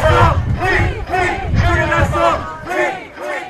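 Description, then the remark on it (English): Supporters of Julian Assange protest outside Woolwich Crown Court in rainy London during the first day of his extradition hearing, chanting in unison, loud, rhythmic phrases repeating roughly every half second with a steady, insistent beat and many voices blending together. “Chants from the protesters could be heard throughout the proceedings.”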